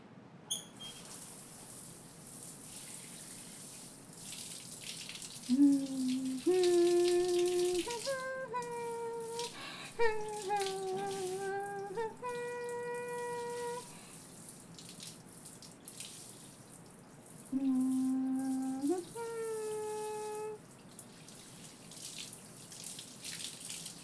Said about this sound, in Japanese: よし、洗い終わった。流すから念のため目をつむっててね。君の方にまで水や泡が跳ねちゃうかもしれないし。